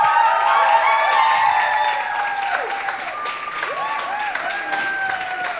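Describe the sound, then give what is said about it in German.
Loud, sustained audience applause with dense clapping, mixed with cheering voices and whoops that rise and fall, holding steady for several seconds before easing slightly, as everyone who took part is called up onto the stage. “Wir machen das jetzt so, wir bitten unter eurem tosenden Applaus alle, die teilgenommen haben, auf diese Bühne.”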